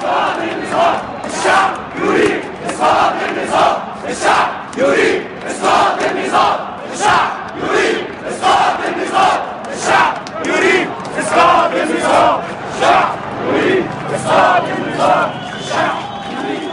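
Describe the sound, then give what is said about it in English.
A large protest crowd against Mubarak's regime chants a slogan calling for the fall of the whole regime, a chant first heard in Tunisia: loud rhythmic bursts of many voices repeating in a steady, driving cadence for the whole stretch. “That resonated so strongly because it was a chant that we'd first heard in Tunisia, and it was about a change of the entire structure.”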